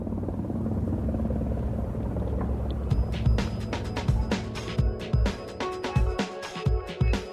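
A helicopter drones with a steady low rumble of engine and rotor, then sharper rhythmic thumps and rattles break through over the roar in the second half. No voices.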